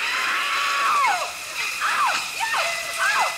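Janet Leigh's horror-film scream from the film Psycho: about four short, falling shrieks, fairly loud, over a steady hiss of rushing water like a running shower.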